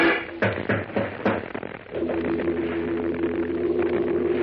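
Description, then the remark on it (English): A few sharp, hard raps of knuckles on a door come in quick succession over the first two seconds, then give way to a steady, low droning hum that holds to the end. “With the sharp rapping of hard knuckles against the door, echoed by the thumping of her heart, Lois presses back against the wall, her eyes wide.”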